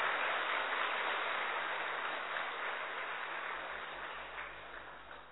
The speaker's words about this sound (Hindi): सब लोग जोर से ताली बजा करके स्वागत करेंगे।